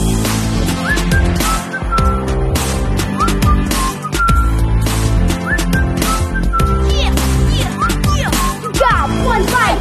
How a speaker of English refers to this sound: I just put my lips together when the world's on my shoulders. And I whistle, baby, here I go.